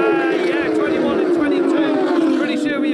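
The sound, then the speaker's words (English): Two Mistral Racing Kawasaki racing motorbikes, numbers 21 and 22, roar past the start-finish line at full throttle as the race starts on the green flag, their loud, buzzing engine note sliding steadily lower in pitch, with faint crowd noise underneath. “Bikes there, and I'm not sure who was in that third position, but the two bikes, 21 and 22, they led off the line and passed us here with a blast of air.”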